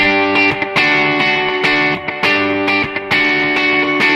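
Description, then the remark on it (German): A loud, sustained electric guitar riff played through a bright Space Echo tape-delay simulation with more highs, with repeating delayed notes smearing into each other and short breaks between phrases, no talking. “Ich gehe mal auf ein Space Echo, das hat ein bisschen mehr Höhen.”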